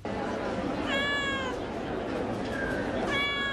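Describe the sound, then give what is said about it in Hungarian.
A cat meows twice, about two seconds apart, each cry drawn out and fairly clear, over a constant murmur of a busy crowd at a cat and dwarf rabbit show held in a shopping centre in Budapest, Hungary. “Több száz macska lepte el az egyik bevásárlóközpontot Budapesten.”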